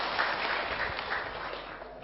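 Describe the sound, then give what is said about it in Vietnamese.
Sustained applause from a large Buddhist audience welcoming the monk Thích Minh Niệm on his return, dense steady clapping, even throughout, with no individual voices standing out. “Xin toàn thể đại chúng cho một tràng pháo tay để cung đón thầy.”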